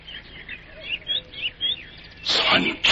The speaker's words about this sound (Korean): 산천경계 새소리에 정을 붙이자.